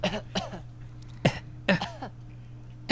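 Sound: woman coughing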